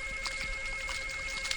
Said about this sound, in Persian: تلفنه، دارم ببینم کیه.